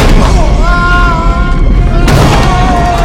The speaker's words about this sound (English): They hurry into the wide room and climb to the large tank. The barrels bang into the tank, cracking the metal. The platform rumbles.